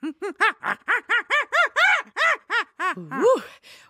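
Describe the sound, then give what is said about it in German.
A person imitates a baboon's scream at a restrained volume: a quick, even series of about a dozen short arching whoops, finishing with a wavering upward swoop. “That was my Schrei des Pavian.”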